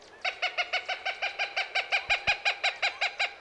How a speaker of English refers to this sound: Behind me in the woods, a cooper's hawk chants.